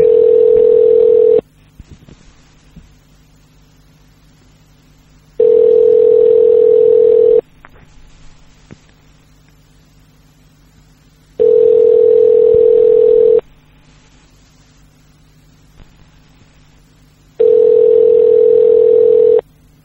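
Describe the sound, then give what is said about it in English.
Four steady telephone ringback tones on a call to a payphone on Alcatraz, each a two-second electronic buzz followed by about four seconds of quiet, ringing unanswered. The tone is clear and fairly loud, with no talking. “I don't think they like picking up phones. Not too many people like picking up payphones.”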